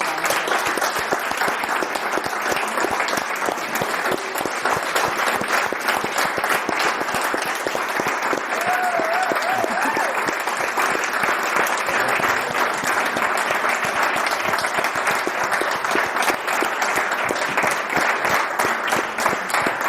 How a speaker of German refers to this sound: Ich dachte ganz kurz, wir sitzen morgen noch hier und klatschen einfach weiter.